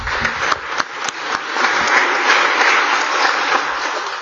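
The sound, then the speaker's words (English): Sustained applause fills a legislative chamber, a dense wash of many hands clapping at steady loudness, with a few sharper individual claps standing out early on and no voices heard. “The clerk advised the chair the audio may not have picked up the seat assignment because there were some applause going”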